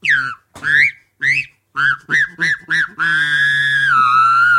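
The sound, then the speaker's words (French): A voice imitates a goose: a string of about seven short, nasal, rising honks, then one long sustained honk with a whistly edge, loud and alone with no talking. “C'était quoi? Une oie.”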